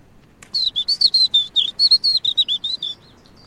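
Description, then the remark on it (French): A small songbird sings from a small tree 3-4 metres high, facing into the wind: a rapid, bright series of high chirping notes, about fifteen quick phrases in steady rhythm over roughly two and a half seconds, clear with no talking. “Et là, vous voyez, il est en train de chanter, face au vent.”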